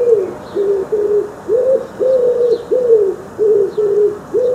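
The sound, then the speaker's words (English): A group of pigeons on a fence coo in a steady, rolling series of soft, throaty calls, fairly loud, with faint bird chirps flickering in the background. “I knew it was time to get cracking on the veg when I spotted a group of pigeons lurking on the fence.”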